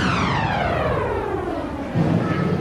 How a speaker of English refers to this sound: I hear thunder and lightning.